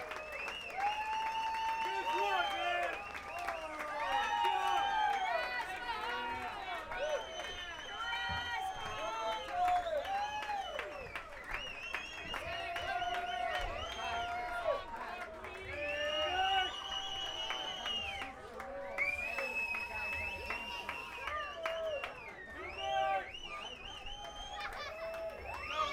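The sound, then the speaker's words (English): A large crowd at a live band performance applauds and cheers loudly and continuously, with whoops, shouts and whistles rising over a dense wash of clapping that barely lets up. “Come on, the energetic crowd.”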